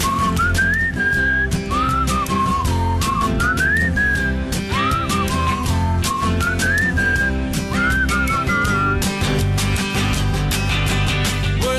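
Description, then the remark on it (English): Someone whistles a wandering, sliding melody in repeated phrases, riding clearly on top of a loud, steady band accompaniment with drums and bass throughout. “Meanwhile, may it join in whistling.”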